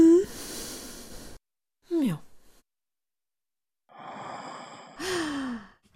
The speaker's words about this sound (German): als Klänge, welche die Aloe Vera mit ihren innerzellulären Aktivitäten ansteuern kann, wählten wir anstelle des Sinustones diskrete, unspezifische menschliche Lebensäußerungen, vulgo Atmen, Seufzen, Räuspern und Stöhnen.